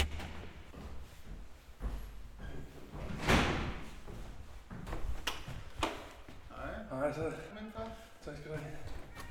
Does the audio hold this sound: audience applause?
no